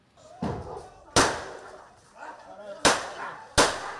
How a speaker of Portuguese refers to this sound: Os disparos foram feitos por um agente que acompanhava a equipe do Ministério Público. O cão da raça Pitbull estava em um quarto sozinho.